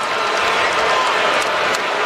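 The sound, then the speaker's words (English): A big arena crowd in San Antonio boos Kawhi Leonard loudly and continuously during a basketball game, a dense, unbroken wall of voices that fills the whole space with no pauses and no single voice standing out. “Can we stop all the booing and let these guys play?”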